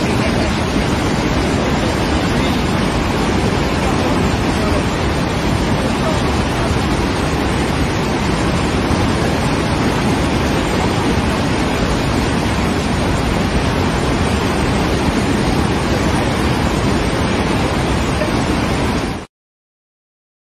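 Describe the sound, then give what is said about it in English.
A massive waterfall on the Zambezi River in Africa roars in a dense, unbroken wall of rushing water, millions of liters going over every minute, loud, holding steady for about nineteen seconds before cutting off abruptly. “We're talking millions and millions and millions of liters of water going over there every minute.”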